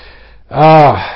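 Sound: sneeze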